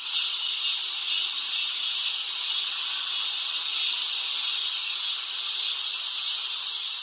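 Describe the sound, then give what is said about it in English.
Millions upon millions of cicadas buzz in a steady, high-pitched drone that holds at an even loudness for the whole stretch, with no pauses and no voices. “I mean, like, I think a lot of people, you're so used to, like, summers in the Midwest, at least like where I'm from, you are so used to the cicada sound.”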